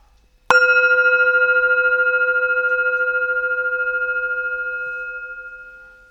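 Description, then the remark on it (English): A single gong strike rings out on its own, a sharp hit followed by a bright, shimmering metallic tone that wavers slightly as it slowly fades over about five seconds. “We will see you after the gong, when we will hear Edgar Allan Poe's The City in the Sea.”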